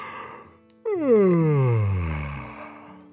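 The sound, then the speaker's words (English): A single long yawn, starting abruptly and sliding steadily downward in pitch as it trails off into a breathy exhale. No one speaks. “The little wheelchair yawned”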